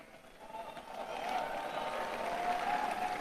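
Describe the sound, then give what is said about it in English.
An audience claps steadily for the Lord for about three seconds, a dense crackling wash of many hands with a few murmuring voices mixed in, holding at a fairly even loudness that swells slightly toward the end. “Oh, are you clapping for the Lord?”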